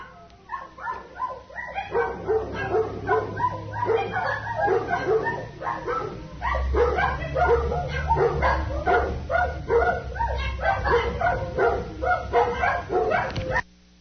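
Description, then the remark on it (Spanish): Dogs bark repeatedly and rapidly through a recording played back, yips and bow-wows overlapping in a dense, continuous chorus, with a low rumble beneath from about the midpoint. “Sí se oye entre los ladridos, sí se oye que alguien está llorando, ¿eh?”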